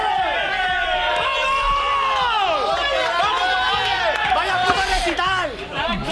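Spain national football team players celebrating in the locker room after their match: a loud group of voices shouting, cheering and chanting over one another without pause, with dull thumps underneath.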